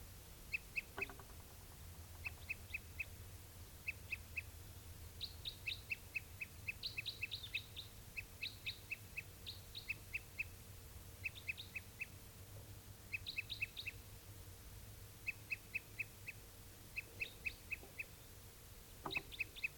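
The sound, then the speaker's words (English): Tuper crossbill song: repeated bursts of quick, high chirping notes in short clusters, sounding steadily over a low background hum, with no talking. “I think this was also the bird that was giving song before.”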